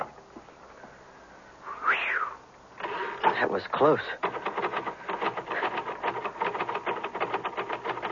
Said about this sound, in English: Well, sounds like you finally got your keys unstuck.